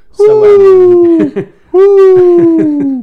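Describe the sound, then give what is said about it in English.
A person's voice imitates a howl, making two loud, drawn-out, wavering tones that slowly slide downward in pitch, separated by a short breath. “Is this your Transylvanian howl?”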